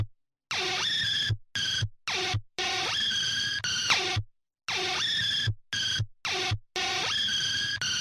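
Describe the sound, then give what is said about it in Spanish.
An unsettling, dissonant electronic instrumental texture, harsh and noisy, chopped into stuttering bursts with whining sweeps and sustained tones, its jittery pattern repeating twice with no voices. “Y este otro que es un poco más perturbador, que igual es increíble.”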